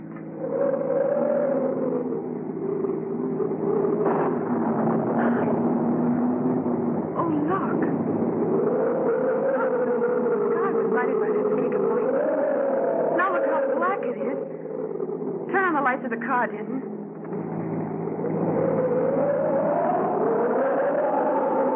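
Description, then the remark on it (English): A car engine drones steadily as it drives on a hill road while strong storm wind howls and gusts around it, the whine rising and falling in pitch. The noise is loud and continuous throughout. “You'll never be able to keep the car on the road with a wind like this.”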